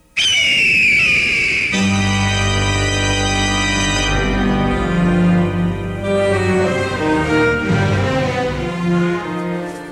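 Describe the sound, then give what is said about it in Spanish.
An eagle, after dropping regurgitated rubicardo leaves from its beak into Calimán's mouth, lets out a single loud, shrill scream with a wavering, piercing pitch, lasting under two seconds before full, sustained orchestral music swells in and continues. “El águila abre la boca de Calimán con sus poderosas garras y deja caer de su pico las regurgitadas hojas de rubicardo y grita en busca de un milagro.”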